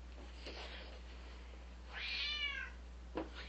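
A cat meows, one drawn-out, wavering meow in the middle, bracketed by a couple of short, quieter chirps, over a low steady background hum.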